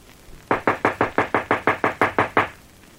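Knocking on a back door: eleven sharp, evenly spaced raps in quick succession, each striking loud with a short resonant decay, and no voices in between.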